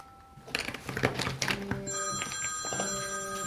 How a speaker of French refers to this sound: Mamie, ton téléphone qui sonne. Oh, c'est pas grave, ma chérie. Laisse-le sonner, j'ai trop mal à la tête pour parler.